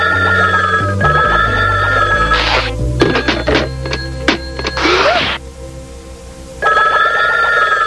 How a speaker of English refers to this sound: The phone won't stop ringing.